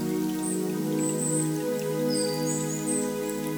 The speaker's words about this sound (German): Der Klang des Baches, eine Fröhlichkeit, die leicht über dem Wasser schwebt. Eine Sicherheit, die immer weiß, wohin sie will. Eine Tiefe, wenn der Bach einfach ganz ist, wie er ist.